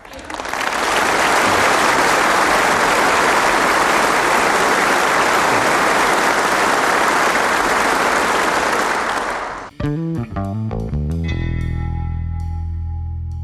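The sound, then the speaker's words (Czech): Loud, dense applause from a crowd at a Communist party congress runs steadily for about ten seconds, then cuts off abruptly into a short stretch of music with tonal chords. “Oni si tam společně strašně rádi zatleskají. Oni milují tleskání.”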